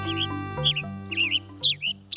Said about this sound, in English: A male western tanager chirps loudly from the branch of a Douglas fir. The tanager's tune is as sharp as his brightly colored red head.